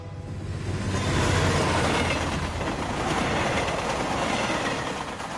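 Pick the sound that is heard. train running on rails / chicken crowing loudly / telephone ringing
train running on rails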